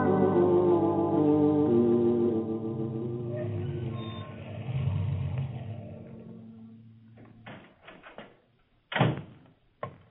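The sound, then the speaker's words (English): A car engine drones with a low, steady hum that fades out as the vehicle drives away after hitting a man in a hit-and-run, followed by a few sharp thumps like a door banging shut. “Looks like a hit and run.”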